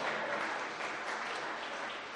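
A crowd applauding steadily, a dense wash of many hands clapping at an even, sustained loudness with no pauses and no voices over it.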